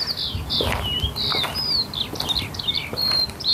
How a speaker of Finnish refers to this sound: On kiuru.